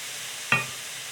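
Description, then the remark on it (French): A sudden burst of sizzling as sauce is poured into a hot frying pan of toasted sesame seeds, a sharp bright hiss that flares up then settles into a steady crackling fry. No one speaks. “Ensuite, je plonge la sauce dans la poêle”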